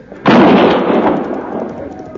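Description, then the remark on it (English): A single loud gunshot, fired in the dark at a man getting away on horseback, cracks out suddenly after a brief quiet, its harsh blast lingering and slowly fading over the next couple of seconds. “I'd have sworn I had him in my sights.”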